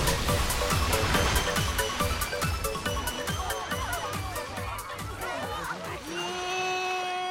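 After a building explodes, hot chocolate rushes down a street in a loud, continuous torrent full of churning crashes and splashes, before a sustained tonal hum takes over near the end.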